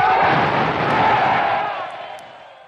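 crowd, crowd cheering and applauding

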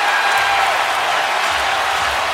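crowd, arena crowd cheering

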